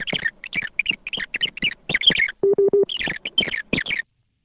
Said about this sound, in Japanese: このテープには説明の区切りごとに次のような信号音が入っています。